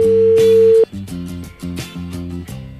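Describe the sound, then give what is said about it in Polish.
A phone ringing tone on an outgoing call: a steady electronic beep, then a repeating pattern of short, bright tonal pulses in a quick rhythm, fairly loud and with no voices. “Może od nas odbierze?”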